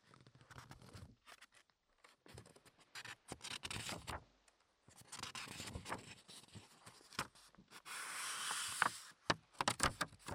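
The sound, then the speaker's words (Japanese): Thin paper pages of a contract copy being turned and handled, with crisp rustles and crackles coming in irregular bursts, some soft and some sharper, separated by brief pauses. “うまくめくれない。今めくってるの2016年くらいでしたっけ”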